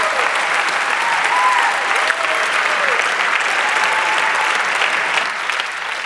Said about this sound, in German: Erstmal einen dicken Applaus, bitte. Ich denke, das haben die verdient.